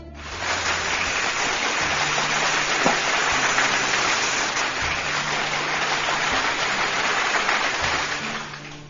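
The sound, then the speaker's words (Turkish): A dense, steady wash of applause, called for by a radio show host after a poem reading, holds at an even loudness for about eight seconds, a thick crackling texture with no voices, before tapering off slightly at the end. “Kocaman bir alkış gelsin gönlümün dostları.”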